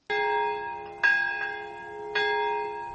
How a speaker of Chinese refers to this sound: 8月9号早上11:02，日本长崎市上空响起了钟声，为原子弹爆炸死难者祈祷。